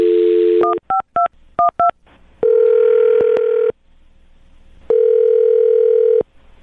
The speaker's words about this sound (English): I'm going to dial his phone number, okay? Okay. All right, here we go.